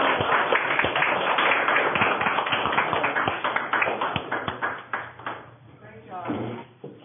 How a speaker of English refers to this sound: Thank you very much. Congratulations. Very well deserved. Thank you. And a round of applause.